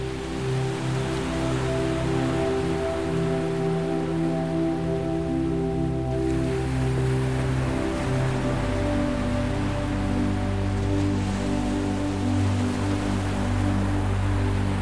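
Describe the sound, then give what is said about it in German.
A steady, continuous rush of ocean surf with no distinct swells, blended with low sustained droning tones underneath; no voices. “Du lässt deine Augen zufallen und hörst dem Rauschen des Meeres zu.”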